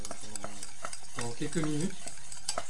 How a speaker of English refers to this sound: on va verser dans la casserole chaude les œufs mélangés au sucre qui ont été battus tout à l'heure. Là, ça en mélange, vous entendez certainement le bruit. Voilà. C'est tout, ils sont encore en train de mélanger. On rebat un coup. Hop, avec le fouet.